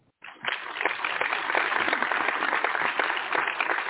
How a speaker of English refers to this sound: LaBrittany. Let's applaud LaBrittany.